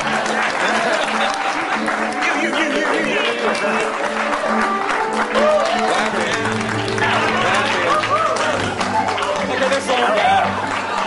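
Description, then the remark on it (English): An audience claps loudly and steadily for about eleven seconds, a dense patter of many hands with excited voices and cheers mixed in throughout. “There must be no more clapping.”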